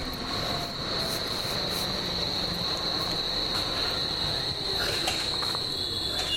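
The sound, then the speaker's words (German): A DT5 subway train arrives in overcast weather around 13 °C, rumbling steadily while a sustained, high-pitched metallic wheel squeal rings over it without a break. No one speaks. “Und da kommt die U-Bahn. Ein DT5 von daher quietsch.”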